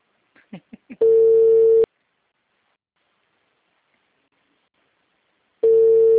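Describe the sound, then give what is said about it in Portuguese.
A few quick chirps give way to a steady, buzzy telephone line tone lasting under a second as a call is forwarded to voicemail. Several seconds of silence follow before the same tone starts again at the end. “Chamada encaminhada para a caixa postal. Grave seu recado agora.”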